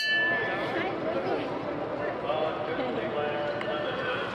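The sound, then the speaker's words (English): A metal bell rings out with repeated, steady clanging strikes over a dense background of noise and murmuring voices. “paid to ring the bell.”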